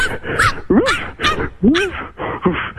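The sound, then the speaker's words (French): A person imitates a stray dog wandering in the street, barking with a rapid series of five or six loud, rough woofs and yelps in an uneven rhythm. “et oui, je peux imiter le donc chien.”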